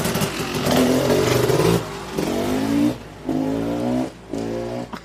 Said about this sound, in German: Jetzt fährt der Nachbar erstmal mit seinem Traktor weg.